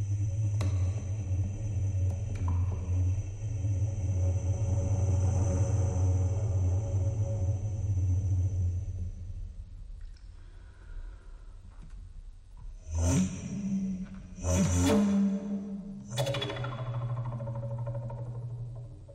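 A Paetzold contrabass recorder, a contrabass flute with a rectangular pipe, played by a musician as background sound, gives a deep, breathy, rumbling drone that holds for about ten seconds, then fades. A few sharp percussive key clicks and short low notes follow, with no voices.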